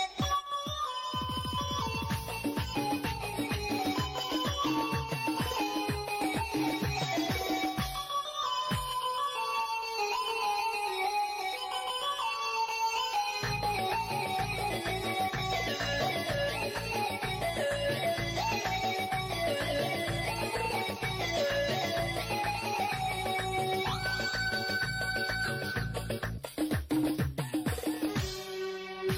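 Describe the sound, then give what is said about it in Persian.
A listener-requested song's instrumental intro plays on a radio program, loud and steady, with bright melodic lines over a pulsing beat and a brief drop in the low end midway, and no voices. “میریم با اتاق فرمان و آهنگ درخواستی شما را با اتفاق میشنویم.”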